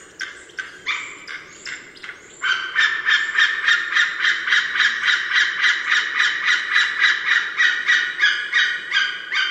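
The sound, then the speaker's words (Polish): A white-tailed eagle's call in flight: a long, steady run of sharp, yelping notes repeated rapidly and evenly, preceded by a few looser, irregular notes, fairly loud and clear with no talking. “Głos wydawany przez bielika w locie jest natomiast bardziej przeciągły.”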